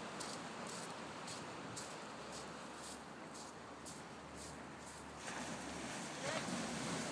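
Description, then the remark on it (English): Breezy waterside ambience as sailing boats finish their morning sailing or race, with two safety boats out: steady wind rush and lapping water, with a low motorboat engine drone running underneath and faint voices. “They're just finishing their sailing for the morning or their race, whatever they've been doing.”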